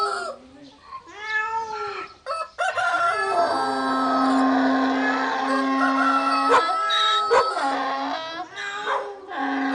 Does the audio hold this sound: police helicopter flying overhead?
no